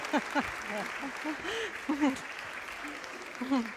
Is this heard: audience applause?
yes